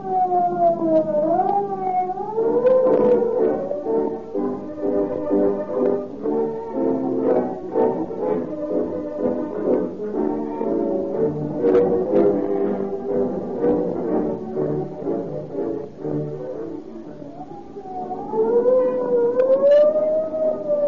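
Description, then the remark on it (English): A loud wailing siren from police cars tearing past rises and falls, clearest at the start and again near the end, with a dense, busy wash of tones filling the middle. No one speaks. “When you hear the scream of the siren and police cars go tearing past, let it remind you that more police cars use Rio Grande cracked gasoline than any other brand.”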